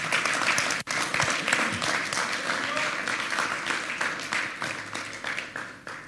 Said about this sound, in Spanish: ¿No le puedes dar un aplauso de alabanza?